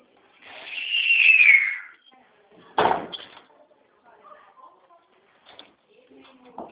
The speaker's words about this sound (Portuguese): Pera aí, deixa eu fechar só a minha porta aqui, tá bom?